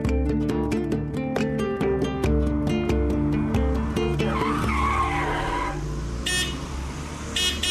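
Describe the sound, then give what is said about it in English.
Over a steady, rhythmic music bed, a car pulls up beside a pedestrian with a brief skid and tire squeal, followed by a few short, high-pitched beeps. “Sorry, I thought it was some old guy trying to seduce you from his car.”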